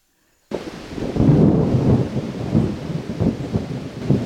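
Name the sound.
rainstorm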